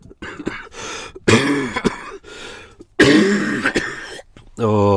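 A person clears their throat and coughs repeatedly, with harsh, raspy bursts separated by short pauses, ending in a strained, voiced rasp.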